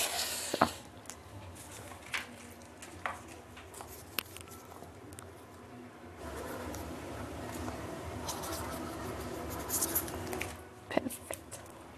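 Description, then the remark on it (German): A pen scratches across paper in quiet, irregular strokes with brief pauses as someone writes an entry in a guestbook by hand, with faint background rustle and murmur. “Und jetzt tragen Sie sich da bitte ein.”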